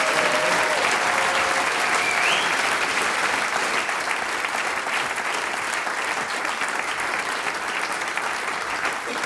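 An audience claps steadily for the full length, a dense, even wash of many hands that holds a constant loudness throughout without swelling or fading.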